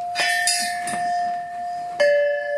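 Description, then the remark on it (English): Heavy red steel pipes of a very heavy grade of steel are struck a few times, each hit ringing out with a sustained metallic, bell-like tone that lingers; the last strike comes louder with a slightly different pitch, no voices present. “These here are red pipes. They're made of steel. They're very heavy. Very heavy grade of steel.”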